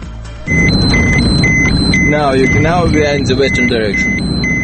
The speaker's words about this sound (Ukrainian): Машина із іноземними відвідувачами приїздить смугу радіаційного забруднення.